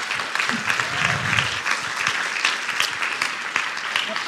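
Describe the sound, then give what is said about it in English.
An audience breaks into sustained applause in appreciation of a speaker, a dense, steady patter of many hands clapping at an even loudness throughout, with a low murmur of voices underneath near the start. “I think he also accepts cash and credit in addition to applause.”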